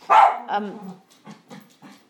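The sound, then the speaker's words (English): A deaf dog barks loudly, trailing into a drawn-out whiny yowl, then lets out three softer, shorter barks in quick succession. No one speaks. “I don't know what he's barking at, unless he can see his reflection in the window, which is quite likely.”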